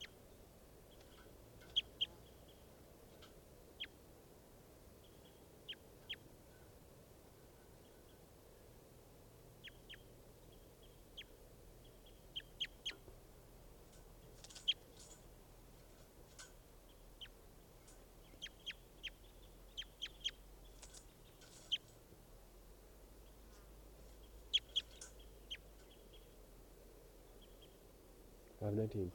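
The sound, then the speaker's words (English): A bird, recorded as bird 515, gives short, sharp, high chirps at irregular intervals, sometimes in quick pairs or clusters, over a steady low hum throughout. “So recording bird 515.”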